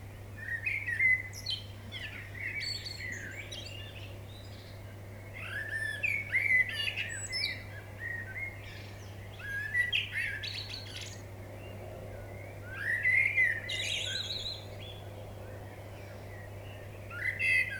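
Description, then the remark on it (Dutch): A dawn chorus of waking birds in the early morning, about 4:30 by the recorder's clock, recorded with a Zoom MicTrack M2 recorder; several birds chirp and trill in overlapping bursts over a steady low hum, some calls louder and others fainter. “Met het wakker worden der vogels.”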